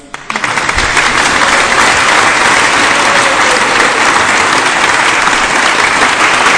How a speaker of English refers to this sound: Give a big round of applause for Indra.